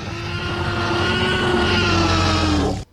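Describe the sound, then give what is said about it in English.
A slowed-down elephant trumpet used as a T-Rex roar: one loud, deep, rasping bellow with a growling, engine-like rumble, held steadily for nearly three seconds before cutting off abruptly. “And what he did was he got an elephant roaring, you know, doing its trumpet, and then he slowed it down and he got this sound.”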